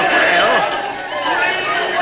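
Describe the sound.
A dense crowd gathered to hear speeches with the Governor chatters continuously, many overlapping voices blending into a loud, steady murmur with occasional raised calls for a speaker rising out of the din.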